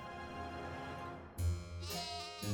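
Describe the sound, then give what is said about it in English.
Sheep bleat several times in quick succession in a meadow, wavering, nasal calls that come through fairly loud, with no one talking. “As the goddesses appeared in the meadow where Paris tended his sheep”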